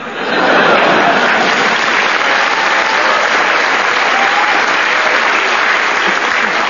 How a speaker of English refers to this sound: I don't know what you're clapping for. We haven't finished yet.